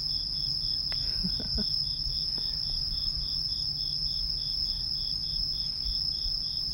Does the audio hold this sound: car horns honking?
no